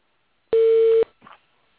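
A phone gives off a single loud, steady electronic tone lasting about half a second, then cuts off abruptly, followed by a brief faint rustle.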